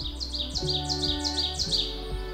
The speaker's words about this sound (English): And right when I opened the door, I heard the oven bird, which their call is sometimes transcribed as resounding, getting louder and louder, saying, "Teacher, teacher, teacher."